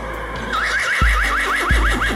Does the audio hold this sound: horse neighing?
yes